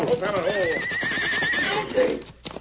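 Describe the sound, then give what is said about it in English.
In a Lone Ranger radio drama, a riderless runaway horse on a rocky trail whinnies loudly, a long wavering neigh rising and falling, followed by a shorter second whinny, with a faint clatter of hooves underneath. “That horse is running away.”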